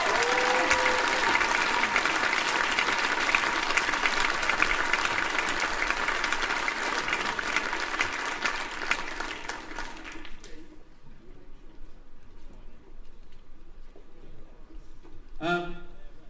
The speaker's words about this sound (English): And everyone else, you know, they're putting their heart and soul into what they're doing, and they're the results. Please give all of those people a huge cheer.